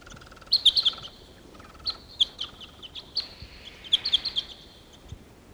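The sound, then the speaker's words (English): High, sharp chirps from wild birds, two sitting together in the top of a tree, come in scattered bursts, a quick cluster at first, then single tweets and another flurry near the end, over a faint steady background hiss with no one speaking. “Here's the wild bird. There are two together sitting in the top of a tree here.”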